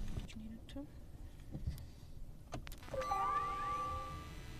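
An electric car with an electric motor powers on: a few soft clicks, then a rising electronic whine with layered tones and a chime over a low background hum.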